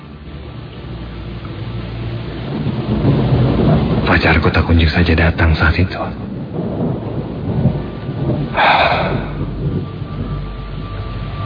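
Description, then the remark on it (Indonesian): Heavy rain and gusting wind roar steadily throughout, swelling into louder rushing bursts midway and again near the end, while a person speaks over the storm. “Hujan deras dan angin kencang membuatku kedinginan.”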